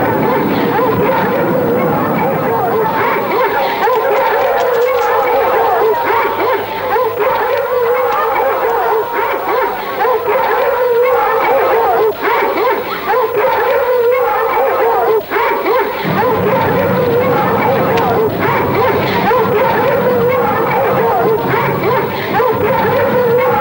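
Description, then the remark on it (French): A large pack of hounds, released to give chase, barks and howls together in a loud, continuous chorus of overlapping yelps and baying voices, never pausing for the whole stretch. “Je lâcherai les chiens à ses trousses. Mais ils risquent de dégager. La meute! Lâchez toute la meute!”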